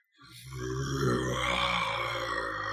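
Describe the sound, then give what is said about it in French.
A voice imitates a big creature's roar after it is struck and its legs drop to the ground: one loud, sustained, rough growl with a low rumbling base and a harsh, gravelly top, held steady for over two seconds. “Puis il fait un gros rugissement.”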